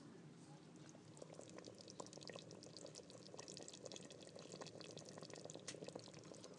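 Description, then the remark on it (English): Steady bubbling and popping of a pot of food simmering while cooking, a continuous wet gurgle with scattered small bursts, fairly quiet and without talk. “So that's the bubbling.”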